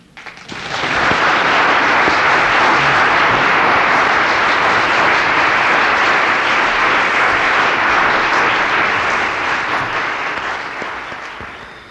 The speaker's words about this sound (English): If it were appropriate, just the two of us here in the studio, I'd be applauding too.